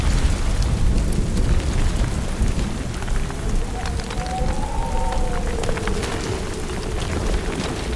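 Steady rain pours down in a dense, continuous hiss during a thunderstorm, with scattered pattering drops and a low rumbling undertone throughout; a faint whistling tone rises briefly in the middle.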